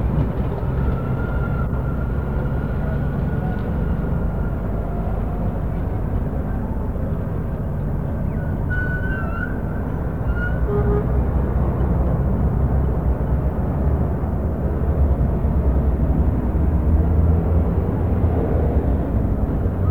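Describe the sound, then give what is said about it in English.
A steady, dense rumble of Dublin city traffic, including buses, heard from room 311 on the third floor of the Ormond Hotel at 5:30 on Tuesday, 28 August 1979, engines droning continuously with occasional faint higher squeals or horns poking through, no voices. “Sounds of the Dublin traffic at 5:30 on Tuesday, the 28th of August, 1979, from room 311, the Ormond Hotel, third floor.”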